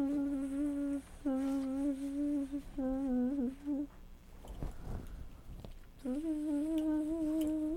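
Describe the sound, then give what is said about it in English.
A voice imitates a bee's buzzing, as Mr. Brown does in a reading of Mr. Brown Can Moo, in several steady, droning bursts, with a short noisy break partway through before the buzz resumes loud. “Busy bee.”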